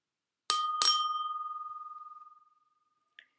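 A bicycle bell rings twice in quick succession, bright and metallic, with the second ring leaving a long shimmering tone that slowly fades. A tiny faint click follows near the end.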